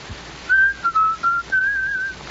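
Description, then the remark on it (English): Someone whistles a short, lilting melody of several sustained notes with small pitch shifts between them, clear, with no talking over it. “how many times do I have to ask you not to whistle that awful tune?”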